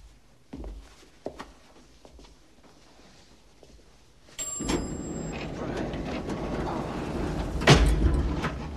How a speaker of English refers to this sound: Junior forces the lift door open.